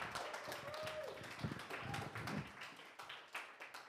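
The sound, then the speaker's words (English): A church audience applauds its volunteers steadily, a dense wash of many overlapping hand claps holding an even, fairly loud level for the whole stretch, with sharper individual claps popping out now and then. “Hey, would you give these guys a round of applause?”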